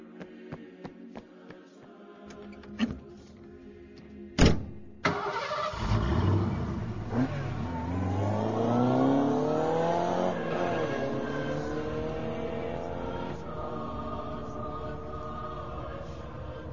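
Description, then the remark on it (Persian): A car door thuds, then an engine cranks and roars to life, revving up with rising pitch as the vehicle pulls away and drives off, the engine droning steadily afterward. “من با ماشین میرم تا یه کمک بیارم.”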